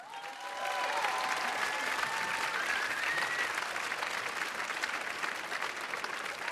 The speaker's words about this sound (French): et je vous présente mes musiciens, vous pouvez déjà applaudir.